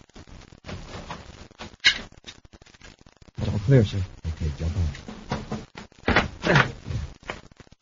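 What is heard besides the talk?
door opening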